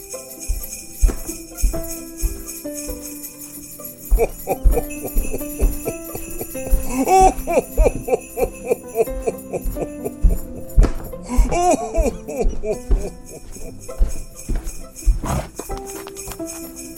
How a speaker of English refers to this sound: So here is a clip of that recording. You will hear Santa's footsteps, the reindeer outside, and this amazing audio captured by Mr. Albert.